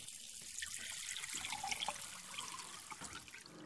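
A faucet runs steadily, a continuous splashing hiss of water poured for drinking for a few seconds, with no voices.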